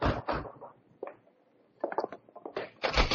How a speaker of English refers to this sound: A little more pounding on that door might have caved it in.